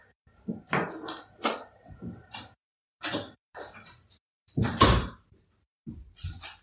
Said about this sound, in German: oh, Entschuldigung, ich merke, ich muss hier, glaube ich, mal ganz kurz eine Tür zumachen, weil irgendwie ist hier gerade eine Baustelle jetzt auf der anderen Seite von dir.